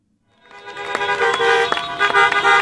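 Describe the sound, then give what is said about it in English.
Dozens of cars in a protest caravan around Denver honk together, overlapping blares and repeated short toots rising over a steady din of sustained honking, loud with no voices. “Dozens of cars convened at a cafe to stage a protest caravan.”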